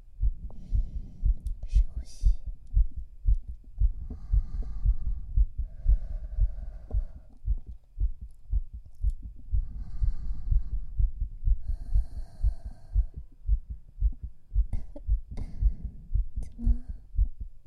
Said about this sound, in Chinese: 对，把衣服撩起来，我要把我的耳朵贴到你的胸口了。哎，你怎么心跳的这么快？